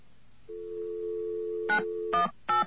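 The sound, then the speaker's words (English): A steady telephone dial tone hums for over a second after the receiver is taken off the hook to make a call, then three short bursts of touch-tone dialing beep in quick succession, each a bright chord of mixed pitches. No one speaks. “Oh, for God's sake, I put the receiver off the hook to make a call.”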